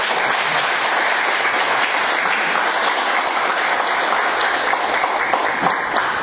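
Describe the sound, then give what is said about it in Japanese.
A crowd at an annual conference applauds steadily for about six seconds, applauding once more for a person who worked hard, a dense, even wash of many hands clapping at a fairly loud, constant level with no voices over it. “皆様本当に、ね、この人本当に頑張りましたので、もう一度拍手を。”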